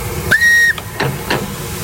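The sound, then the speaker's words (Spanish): A steam locomotive, the Mataró, a replica of Spain's first steam engine built for the railway's centenary and kept at the railway museum in Vilanova, lets out a short, steady whistle blast, followed by two brief bursts of hissing steam, with no one speaking. “Es la Mataró, también hemos hablado de ella, una réplica de la primera máquina de vapor española, la que este 2023 cumple 175 años.”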